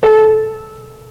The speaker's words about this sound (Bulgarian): Да чуем друг тон от гамата. Да чуем тон, на който не е от гамата.